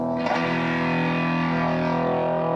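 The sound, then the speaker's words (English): An electric guitar played through a distortion pedal that overloads the signal strikes one loud, gritty, fuzzy chord that rings out and sustains for a couple of seconds, heard on its own without any talking. “A distortion pedal, which overloads the signal.”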